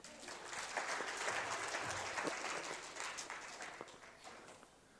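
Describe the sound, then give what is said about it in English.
A crowd applauds a girl who has just sat down, steadily for about five seconds, a dense patter of many hands clapping at an even level, with a few sharper individual claps standing out before it thins toward the end. “Give her a clap.”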